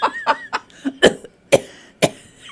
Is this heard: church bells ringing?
no